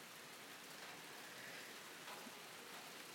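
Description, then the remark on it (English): Steady, moderate warm rain falls continuously on a sultry evening, not torrential, a dense even hiss of drops with no pauses or swells, fairly quiet, with no voices present. “It's not torrential at the moment, but it's just steady.”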